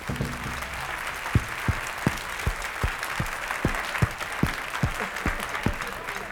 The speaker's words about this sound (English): Before we go any further, ladies and gentlemen, I would like you to give a big round of applause to the orchestra that we have here tonight. There they are.